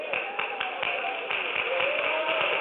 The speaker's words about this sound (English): Do you hear the Kool-Aid drinkers clapping? Oh, they're clapping. They're buying it. They're buying it.